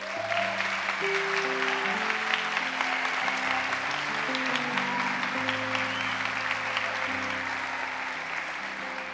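In a church, a crowd claps steadily for about nine seconds, a dense, even wash of applause that never fades, with sustained keyboard chords playing softly underneath.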